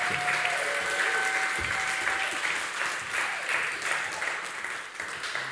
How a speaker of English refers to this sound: But give her a round of applause.